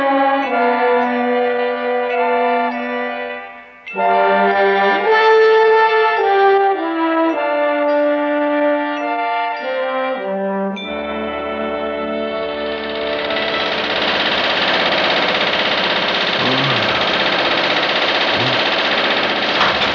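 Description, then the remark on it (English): A riveting gun hammering in a loud, steady, rapid mechanical clatter that takes over after a stretch of sustained tonal music and continues to the end, with no voices. “About the riveting gun.”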